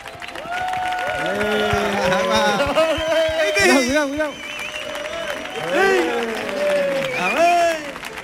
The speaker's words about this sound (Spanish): fuerte el aplauso para Mark Lenders